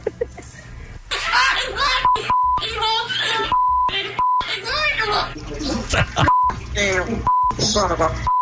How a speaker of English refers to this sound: Okay, here's Archimedes, and you sent us about, because I know you're not at home, right. But we wanted to hear the parrot swearing, so.